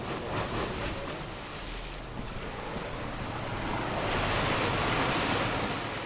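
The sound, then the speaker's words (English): A pumping station draws river water at 3,000 liters per second, diverting it to irrigation canals, with a loud, steady roar of rushing water over a low mechanical rumble, continuous, swelling slightly toward the end, with no voices. “This pumping station sucks 3,000 liters out of the river per second, diverting it to irrigation canals.”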